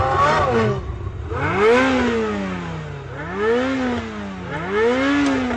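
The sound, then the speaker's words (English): A car engine revs repeatedly in the movie Fast and Furious, its pitch sweeping up and down in several loud surges as it accelerates, forceful, with no voices over it. “Well, your car may sound fast and furious these days, but the auto industry's secret, that engine sound may be fake.”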